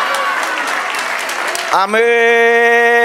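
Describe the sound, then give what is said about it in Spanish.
An audience at a Spanish-language church service applauds the Lord loudly, dense clapping filling the first couple of seconds before giving way to a steady, sustained musical note held to the end. “Denle otro aplauso al Señor.”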